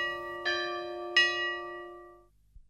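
Two resonant church bell strikes about three-quarters of a second apart, each blooming into a long, shimmering hum of overtones that slowly fades, with no voices present.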